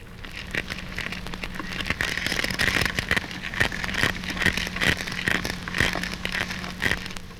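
Horse mackerel and seabream crunching as they feed: dense, irregular crackling snaps and crunches, loud, over a low steady hum, with no voices.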